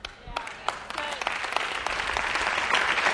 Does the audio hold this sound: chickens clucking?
no